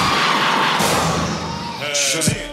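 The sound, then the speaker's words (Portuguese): A loud crowd of women shouts and cheers together in a dense, continuous roar, answering a call for the shout of women who are independent and believe rights are equal, with a few higher screams and voices rising out of the noise near the end. “Agora eu quero ouvir o grito da mulher que é independente e acha que os direitos são iguais.”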